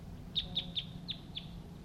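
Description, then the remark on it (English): Two male wild birds calling in the trees immediately above: five short, high-pitched chirps in a loose series, each sharp and bright, standing out over a steady low rumble of background noise. “Two male wild birds are calling at this time.”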